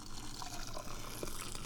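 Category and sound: household object, hot water poured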